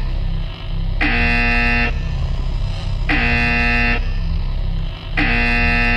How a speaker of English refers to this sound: Because I'm getting sick of this alarm noise.